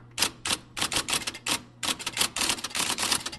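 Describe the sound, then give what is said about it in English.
An IBM Selectric electric typewriter, a giant model from circa 1961 with a golf ball-sized type ball, types in rapid, uneven bursts of sharp clacks over a steady low motor hum, with brief pauses between flurries of keystrokes. “An IBM Selectric, the giant electric typewriter with a golf ball-sized type ball, circa 1961.”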